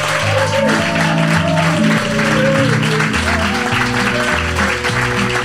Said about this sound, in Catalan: Benvingudes a la tercera temporada del Nou Paradigma, el podcast amb un públic obedient, com ens agrada, que dius ara feu un aplaudiment i el públic aplaudeix!